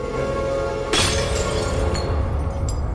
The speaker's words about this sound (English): runs into the sitting room where the tray lies smashed on the floor.